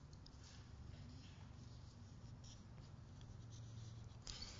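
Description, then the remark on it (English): Faint rustling of sticky paper pages being handled, a steady soft scraping texture that ends with a brief, slightly louder crinkle. No one speaks. “Paper's a little sticky here.”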